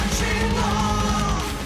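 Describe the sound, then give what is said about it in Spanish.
Loud, raucous festive shouting from several voices rings out over a dense, driving power metal band at the end of a song, a burst of celebratory yelling sustained across the whole moment. “Un comienzo desde las gaitas hasta los gritos de jolgorio del final.”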